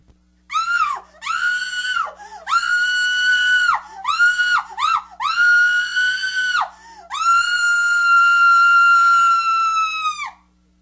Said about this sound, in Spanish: Pues díganle a la señora que grite.